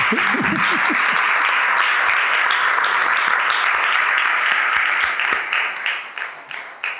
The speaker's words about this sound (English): So a big applause.